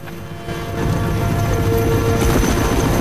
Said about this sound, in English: A helicopter hovers over the village.